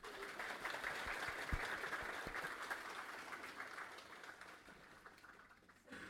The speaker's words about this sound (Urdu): تھوڑی سی ہلکی تالیاں بجائیں.